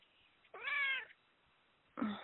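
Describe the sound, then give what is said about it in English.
A cat lets out a clear, drawn-out meow, followed after a short pause by the start of a second meow, with no talking. “Yes, and your kitty just said, yes, that's right.”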